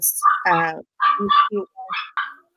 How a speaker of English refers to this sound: That's my neighbor's effing Pomeranian. It seems like it's in there with you. No, it's in the courtyard of my building. It's upset. Yeah, I have to hear it all day, so.